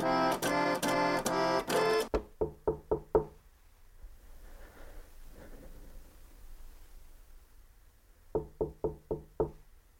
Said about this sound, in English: He grows nervous and knocks on Coco's door.